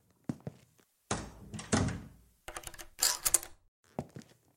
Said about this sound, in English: Close the door, would you? And put the chain on top.